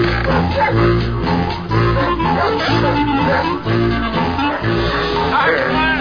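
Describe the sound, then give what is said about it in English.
The Bumpus hounds, a pack of hound dogs belonging to hillbilly neighbors, bark and bay all at once, a loud, dense, overlapping chorus that keeps going without a break for several seconds, chaotic. “Our hillbilly neighbors, the Bumpuses, had at least 785 smelly hound dogs.”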